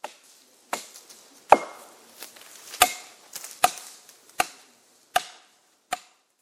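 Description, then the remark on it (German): An axe chops into wood while felling trees, with about eight sharp, cracking thwacks at a steady, slightly uneven pace, each blow ringing briefly before the next. No voices are heard. “Mit der Axt fällten sie ein paar Bäume.”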